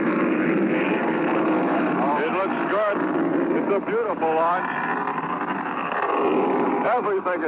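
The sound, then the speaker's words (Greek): A loud, steady roar of Atlas rocket engines during launch as the rocket rises vertically, a dense rumbling wall of noise that never lets up, with indistinct voices faintly rising and falling beneath it. “Ο κόρυφος είναι εκουφαντικός. Όλοι κρατούμε την αναπνοή μας. Ο πύραυλος ανεβαίνει κατά κόρυφα. Οι κινητήρες δουλεύουν περίφημα.”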